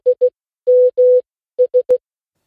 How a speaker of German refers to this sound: Na, erkannt? Ja, genau. Es ist der SMS-Klingelton eines Nokia-Handys. Und letztendlich heißt dieser Morse-Code nichts anderes wie SMS.